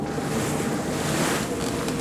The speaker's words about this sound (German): der Wind ist zu stark!